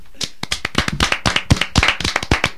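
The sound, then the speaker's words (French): A small group applauds a person, hands clapping in a quick, steady stream of sharp claps that keeps going throughout, with no voices over it. “Et d'ailleurs, nous allons l'applaudir.”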